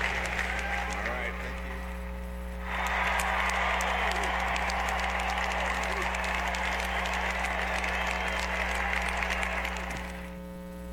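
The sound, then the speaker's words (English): After a brief pause, an audience at a church meeting breaks into steady, dense applause after a speech, carrying on for about seven seconds before tapering off, with a constant low electrical hum underneath throughout. “And he doesn't know whether he should shut the clapping down or whether he should let it continue going on.”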